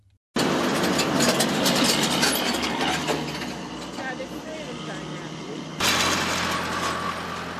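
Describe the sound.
A heavy tractor engine drones steadily with clanking, grinding mechanical noises as the tractor digs ground for planting seeds, and a louder rumble swells near the end as trucks pass; muffled voices sit faintly underneath.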